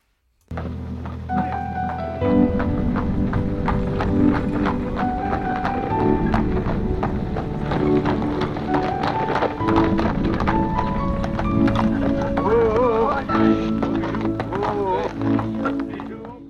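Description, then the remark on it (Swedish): The hooves of a horse named Bijou clip-clop at a steady walking rhythm, moderately loud, over a busy background with a voice speaking briefly near the end. “Så det är väl en häst som heter juvelen.”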